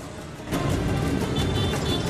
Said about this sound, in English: then bustling traffic on a Vietnamese street.